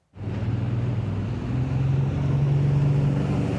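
A wooden boat's engine drones steadily, its low hum rising slightly as it cruises in summer, with a constant wash of water and wind noise around it. No one speaks.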